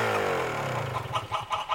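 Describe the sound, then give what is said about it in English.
A hen that has laid an egg clucks in a quick, rhythmic run of short bursts, following a low droning tone that slowly sinks in pitch. “The hen lay an egg.”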